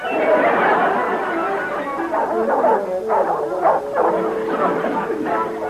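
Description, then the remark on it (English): Many dogs bark and yelp at once in a dense, overlapping chorus, loud, with yips and whines mixed in and no pause across the whole stretch, at a dog pound where stray, lost and homeless dogs are kept. “it's a place where they take stray dogs, dogs that get lost or don't have a home”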